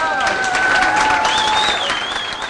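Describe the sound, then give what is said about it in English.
Plant workers applaud steadily as the last Oldsmobile Alero rolls off the assembly line in Lansing, Michigan, dense clapping with some whistles and cheers rising over the noise throughout. “It rolled off the assembly line to the applause of plant workers who signed their names under the hood and the trunk.”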